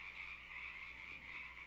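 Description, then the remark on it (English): A steady chorus of frogs croaking, their overlapping calls blending into a continuous, faintly pulsing drone in the background, with no voices present. “I love the frogs in the background there.”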